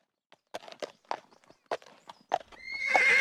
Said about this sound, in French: Une nuit vers 11 heures, ils furent réveillés par le bruit d'un cheval qui s'arrêta juste devant la porte.